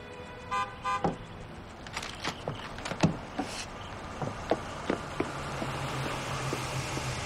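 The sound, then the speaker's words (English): A car pulls up in a driveway in daytime with a low, steady engine hum. Two short horn toots come early on, then a string of sharp clicks and clunks as it settles to a stop. “Daytime, Michael reads the paper as Gina pulls up.”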